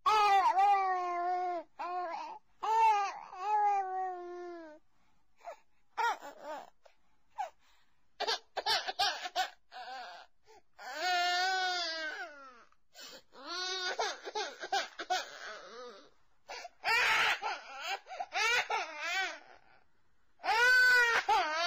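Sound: child crying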